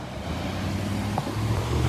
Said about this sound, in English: Oh, there's another car, bro, don't wanna get hit.